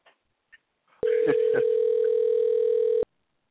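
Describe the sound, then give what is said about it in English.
A loud, steady telephone dial tone hums continuously for about two seconds, interrupted by a couple of brief clicks, after a few faint taps at the start. “I'm trying to get your other girlfriend on the phone”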